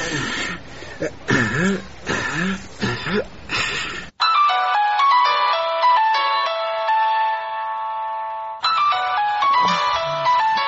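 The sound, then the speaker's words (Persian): A person talks, then a bright electronic phone ringtone plays a repeating melody for about four seconds before speech resumes over the end of the tune. “باش که داشت ببینیم که کی زنگ میزنه.”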